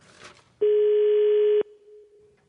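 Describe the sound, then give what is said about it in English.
A foreign telephone ring tone: one loud, steady buzzing tone at a low-mid pitch lasts about a second, then fades to a faint hum, with no talking. “That sounds like a foreign ring.”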